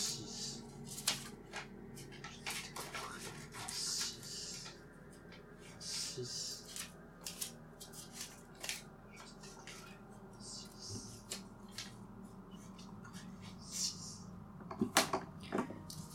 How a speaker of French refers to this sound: Alors, vous allez découper votre demi-feuille de papier en 6 petits bouts, en prononçant à chaque coup de ciseau « Je te découperai en 6 ». Allez, on le fait.